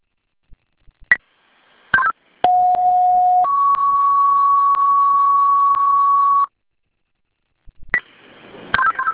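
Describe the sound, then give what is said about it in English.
A two-tone fire dispatch alert over a radio, retoning the first alarm for a response to 19 School Street with smoke inside: a steady lower tone for about a second, then a higher steady tone holding for about three seconds, framed by short bursts of crackly radio keying noise. “Fire alarm retoning, first alarm, responding 19 School Street, smoke inside.”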